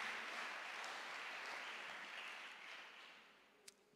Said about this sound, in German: Dafür dürft ihr ihm einen Applaus geben.